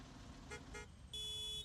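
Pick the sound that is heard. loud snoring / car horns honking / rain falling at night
car horns honking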